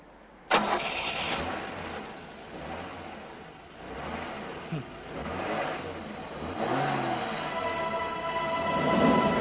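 A car engine cranks and sputters repeatedly, straining to turn over in uneven bursts, then catches and builds into a rough, rising rev, fairly loud.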